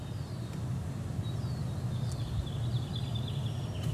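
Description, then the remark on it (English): Faint birdsong chirps on and off outdoors in a city garden with rows of hops, over a steady low rumble of planes flying over, with no one speaking. “It's outside. Kind of some birds and some metal birds, some planes flying over.”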